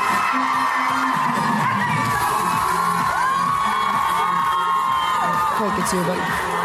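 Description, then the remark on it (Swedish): A large crowd at a show roars and cheers continuously as the drop of a song plays and performers enter the stage through the middle of the audience, with whoops and shouts rising over a dense wall of voices and faint music underneath, loud and sustained throughout. “när droppet kommer i låten, det är då jag och Vän ska äntra scenen. Och det, eller mitt i publiken liksom. Ja, och det lät så här”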